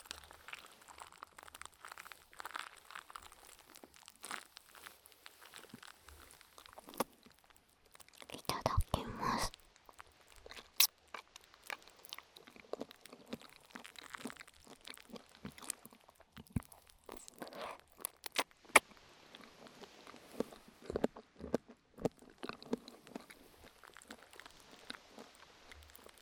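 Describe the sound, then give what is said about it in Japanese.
Soft, wet slurping of tokoroten noodles topped with black vinegar, in Tokyo, with one longer, louder slurp in the middle and scattered small crackles and clicks from the tokoroten foaming, under quiet whispering. “なんだろう、ラーメンの音再び。”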